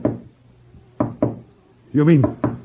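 Four hollow wooden knocks from a spirit-rapping box, a small wooden noisemaker gimmick worn around the waist with a hammer inside, worked by flexing body muscles; sharp and fairly loud, in an uneven rhythm: one, then a quick pair, then a last rap after a brief wordless vocal sound.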